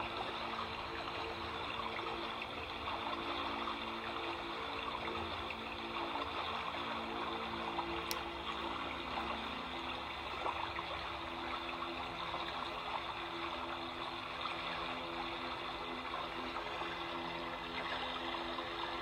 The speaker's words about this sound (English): And just keep the visualization of this beautiful creek in a beautiful, nice wood or forest. And just be in that space, relaxing with the water sound.